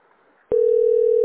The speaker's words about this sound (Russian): Ваша позиция 22, ваша позиция 22, а потом короткие гудки.